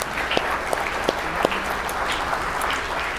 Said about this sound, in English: And so can we give all the moms just a really big round of applause. All that stuff for all you do.